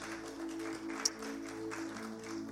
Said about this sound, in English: Yeah, if you want to give the Lord a clap offering, go ahead.